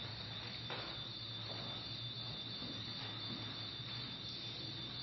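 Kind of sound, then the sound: signal or alarm, alarm going off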